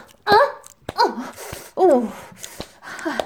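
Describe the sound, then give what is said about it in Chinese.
A person imitates a dog barking on command with about four short, voiced woofs spaced roughly a second apart, fairly loud, with breathy sounds in between. “给我叫，给我学狗叫！”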